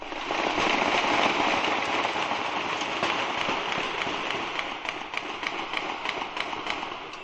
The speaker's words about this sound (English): we're hearing gunfire and police sirens and yelling, and then a monster explosion, Then gunfire after that.